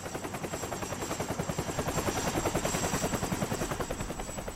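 A Coast Guard helicopter flies over a mountain, its rotor blades beating out a rapid, steady chop that swells slightly in the middle and stays loud throughout, with no voices.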